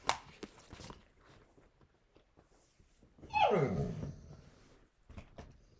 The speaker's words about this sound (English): Okay. I'm going to let the dog outside real quick. I will be right back.